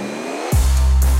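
A motor starts abruptly halfway through, sweeping up from a low rumble into a loud, steady droning hum that holds to the end, with no talking.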